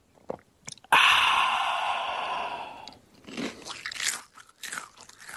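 A loud crunch as a tortilla chip is bitten, its crackle fading over a couple of seconds, followed by a few irregular chewing crunches with no talking.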